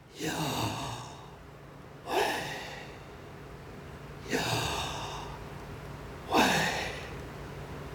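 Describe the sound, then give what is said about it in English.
Slow, audible breathing: four airy inhale-and-exhale breaths at an even pace, roughly every two seconds, each swelling then trailing off, with quiet gaps and no talking. “The theory says that the name Yahweh is actually the sound of breathing. YH is inhaling and WH is exhaling.”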